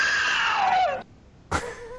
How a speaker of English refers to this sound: And we got another Wilhelm type scream, only from a female.